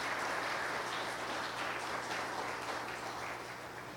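Sustained applause from an audience, a dense steady patter of many hands clapping at an even loudness for several seconds, with no voices over it.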